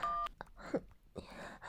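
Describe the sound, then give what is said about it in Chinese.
A short, steady telephone keypad tone sounds at the start as a phone call is dialed to a woman's husband, clear, followed by scattered soft rustling noises with no speech. “你为什么这么喜欢给我老公打电话？”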